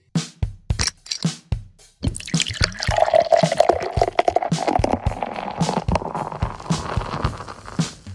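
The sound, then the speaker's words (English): Liquid sounds of a beverage called Tropical Psychopathy: a few sharp drips and clinks, then a steady, fizzy pour that rises in pitch as the glass fills. No one speaks. “what the fuck are you drinking?”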